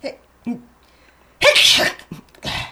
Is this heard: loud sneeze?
yes